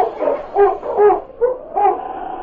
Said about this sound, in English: Seemingly ready to desert his master, the intelligent husky barked to the other dogs.